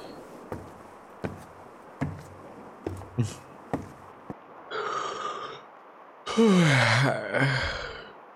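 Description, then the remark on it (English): A person lets out a drawn-out, voiced yawn with a wavering pitch, after a shorter breathy vocal sound and a few soft taps and knocks. “That's why I'm yawning.”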